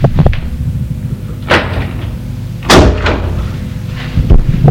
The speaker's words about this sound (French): Il le fait entrer et ferme la porte.